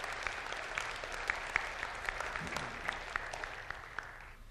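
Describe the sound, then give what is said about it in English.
A church audience applauds a testimony steadily, dense overlapping claps forming a continuous wash of sound, moderately loud and sustained throughout with no talking over it. “Could we applaud this beautiful testimony?”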